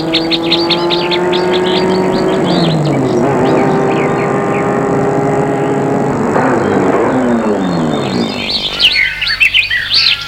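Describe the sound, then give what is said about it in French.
A car's engine hums and drives past on a road, its pitch dropping as it goes, while birds chirp and tweet steadily in the background. “Elle a marché un long moment sur la route. Une voiture passe.”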